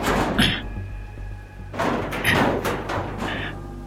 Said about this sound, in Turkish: Kapıya yaklaşıyorum. Üstünde paslı bir asma kilit var. Kilidi çekiştiriyorum, bana mısın demiyor. Eski püskü görüntüsüne karşın oldukça sağlam. Kilidi bırakıp kapıyı itiyorum.